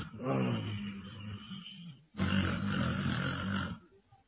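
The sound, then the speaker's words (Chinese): A man's voice imitates the loud snoring of a sleeping prince in two long, rasping, growly breaths, each lasting about two seconds, separated by a brief pause. “这王爷睡着了，打呼噜，在这坐着窝着磨了。”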